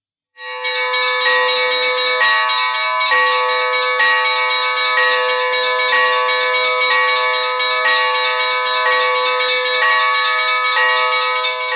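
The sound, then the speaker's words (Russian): Church bells of a monastery peal continuously and loudly, calling worshippers to prayer before the evening service and Paraklesis during the Dormition Fast, several tones striking in quick succession with a bright, ringing overlap and long sustain, starting abruptly and carrying on without any voices. “Колокольный звон собирает верующих на молитву перед началом вечернего богослужения и совершения особого умилительного пения Параклисиса.”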